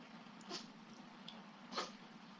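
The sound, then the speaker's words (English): A cat sneezes twice, two short, soft bursts about a second apart over a steady low hum, fairly quiet. “And the cat sneezing.”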